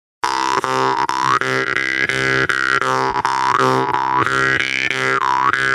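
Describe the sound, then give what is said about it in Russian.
A jaw harp played loud with breath pushed through it and the mouth cavity used as a resonator, giving a strong buzzing drone, steady rhythmic plucks, and overtones that sweep up and down like a wah. No voices. “Здесь уже, да, здесь уже дело техники, но, опять же, звуки можно усиливать с помощью собственного резонатора в полость рта. Потому что если добавить что-то туда дыхание, вы слышите мощнее, да, получается?”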